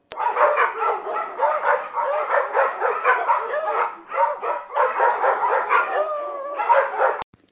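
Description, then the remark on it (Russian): A guide dog in training barks and yips almost nonstop, fairly loud, its cries rising and falling with whiny, pitched tones for several seconds, with no people talking, at a guide-dog training school in Kupavna, Moscow region, Russia, in May 2018. “Я учусь быть собакой-проводником, хорошим помощником незрячему человеку.”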